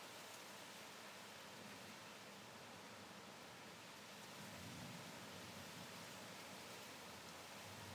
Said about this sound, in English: it's very humid. And it's come over like it's going to rain, I think. That's a big gust of wind. In the trees.